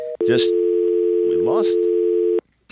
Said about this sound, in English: Jesse hung up on me in the midst of a profound answer. Obviously, something happened to his phone there.